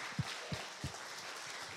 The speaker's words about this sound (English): Let's have a round of applause for them because they worked really hard.